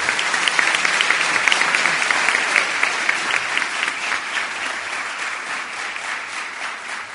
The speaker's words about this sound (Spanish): Así que el aplauso se los pido para todos esos profesores y para todo el equipo. Muchas gracias.